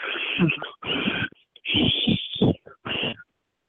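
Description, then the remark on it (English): Several airy, wheezy whistle attempts made while breathing in, coming in short breathy bursts separated by brief gaps, fairly loud. “I'm whistling in.”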